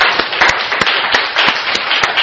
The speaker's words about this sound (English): And a round of applause, if we could.